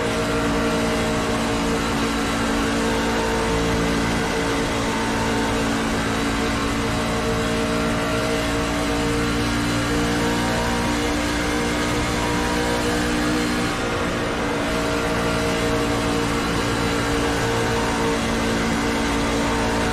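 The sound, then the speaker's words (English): A race car engine roars, revving hard and accelerating with a steady, loud mechanical drone that holds for the full stretch, no voices over it. The car is number B15, driven by Morrison. “the next car is Morrison, B15.”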